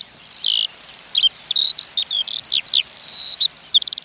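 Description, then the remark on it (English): A male skylark sings while hovering in song flight at a great height, a continuous, high-pitched stream of rapid trills, chirps and warbling whistles, bright and unbroken, with no other sounds around it. “They hover, singing from a great height, before parachuting back down to earth.”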